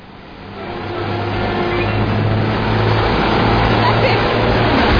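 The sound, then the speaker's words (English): A heavy truck engine revs and accelerates, its deep throbbing rumble swelling louder over the first couple of seconds and then holding at a strong, steady roar. “That's the truck is going to kill everybody. You need to stop that truck.”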